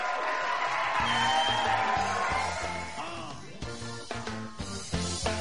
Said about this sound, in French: Merci. Alors, vous applaudissez.